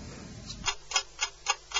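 A clock ticks steadily before the time announcement (8:30) on the radio station of the Church of Greece, five crisp, moderately loud ticks at an even quick rhythm, following a brief stretch of low rumbling noise. No voices are heard.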